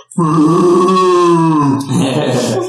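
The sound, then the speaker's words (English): A person imitates a cow's moo with one long, loud, low-pitched drawn-out bellow, steady and harmonic, then a rougher, breathier tail near the end. No words are spoken. “I don't speak cow.”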